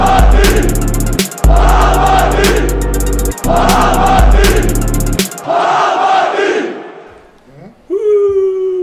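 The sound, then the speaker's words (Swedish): A loud crowd roars and chants in a steady rhythm with pounding beats, then breaks off and fades into a softer murmur before a voice starts speaking at the end. “Jubel i bakgrunden.”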